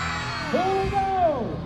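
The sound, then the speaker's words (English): A crowd cheers at a Santa parade as Santa, waving above the crowds, throws out sweets to children's reaching hands; a steady wash of voices with one high, drawn-out whoop that rises and holds for about a second before fading back into the din. “And he's delighting the crowds, throwing out sweets as little hands reach out.”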